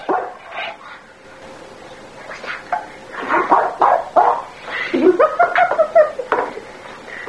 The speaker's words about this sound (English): First time we ever heard him bark, it was like a miracle. It was like the Red Sea parting or something. We were so shocked because we had never heard him bark. And now listen at him.